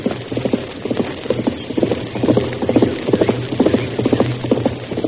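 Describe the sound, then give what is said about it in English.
Hoofbeats of a galloping horse pound in a fast, steady rhythm, fairly loud, as a rider on a horse lathered from hard riding goes by over a low rumbling background. “They'll stay hidden here until that rider passes.”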